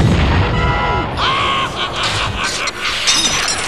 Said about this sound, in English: They finally found the Lich King's lair, and fiercely did they fight. The Lich King let out a mighty fart.